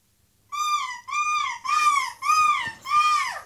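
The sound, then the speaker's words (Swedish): A person imitates a seagull's scream with five loud, nasal cries in quick succession, each rising and falling, with brief gaps between them and no talking. “Vilken är vinnaren i Måsskrik EM och vilken är jag?”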